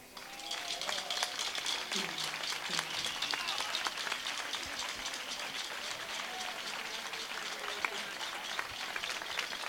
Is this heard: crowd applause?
yes